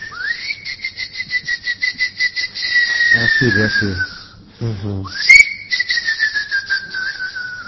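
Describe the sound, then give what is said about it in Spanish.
A whale hunter whistles to call whales: two long, high whistles, each rising quickly then gliding slowly downward, with a brief spoken phrase between them and a rhythmic pulsing underneath. “Él le chiflaba a las ballenas.”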